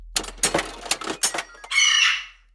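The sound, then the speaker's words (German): A ticket machine that also dispenses jokes and cookies ejects a free ticket for the Magma-Spimo-Abenteuerland: a quick series of rattling, clacking mechanical bursts, then a brief bright, ringing tonal sound that fades out. No one speaks. “Das Ticket wird ausgeworfen”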